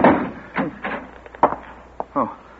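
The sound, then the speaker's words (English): Several heavy, irregular thuds of someone locked in a room pounding on a locked wooden door with a spring lock, with a short pause between the blows. “I rang the buzzer and pounded on the door, but no one came.”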